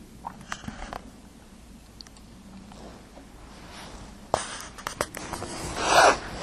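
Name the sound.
paper being handled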